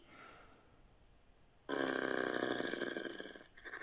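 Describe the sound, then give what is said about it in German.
After a quiet pause, a loud, deep, rumbling growl from something large below a bridge surges in and rolls on for nearly two seconds, dips briefly, then swells again. “Ein lautes Knurren rollte wie eine Welle auf die beiden zu.”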